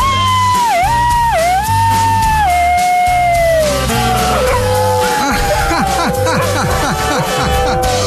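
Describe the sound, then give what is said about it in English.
A woman's voice imitates a husky with a doggy yelp, the way she sings to her dog. She is a professional musher with a team of 20-something huskies. It starts with long, wavering, howl-like notes that dip in pitch, then breaks into a quick run of high, arcing yelps over a steady low hum. “She demonstrated for us how she kind of sings to her dog. She does a kind of a doggy yelp.”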